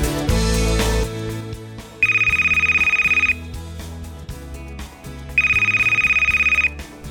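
A telephone rings twice, each ring a loud, high-pitched electronic trill lasting just over a second, with a pause between them over a steady low musical background.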